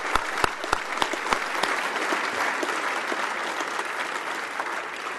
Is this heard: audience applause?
yes